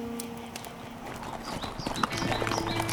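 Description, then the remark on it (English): Horses' hooves clip-clop in a steady, uneven rhythm of sharp knocks at moderate loudness, with a faint sustained tone humming underneath and no one speaking. “Craggy peaks, lushly timbered valleys, arid wastelands, all passed underneath their horses' hooves as they continued eastward, angling somewhat to the north toward Colorado as they did so.”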